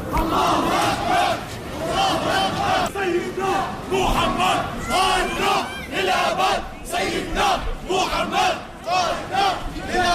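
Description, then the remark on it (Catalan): A large crowd of Syrians outside the Umayyad Mosque in Damascus, on the first Friday of prayer, celebrates the fall of the Bashar al-Assad regime. They shout and chant in loud, overlapping bursts of joyful cries, many voices rising together in rhythmic, sustained waves of excited cheering. “Aquest és l'ambient a la sortida de la mesquita dels Omeies de Damasc. Crits d'alegria en el primer divendres de pregària en què milers de sirians han sortit al carrer de les principals ciutats per celebrar la caiguda del règim de Bashar al-Assad.”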